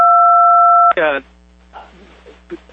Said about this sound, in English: Please don't press phone buttons.